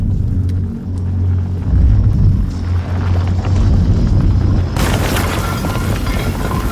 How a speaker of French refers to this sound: Dans une galerie, juste au-dessus du refuge, une petite explosion suivie d'une chute de pierre.